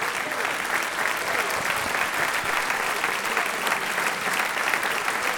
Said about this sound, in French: Je voudrais aussi remercier que vous applaudissiez très fort notre nouveau président,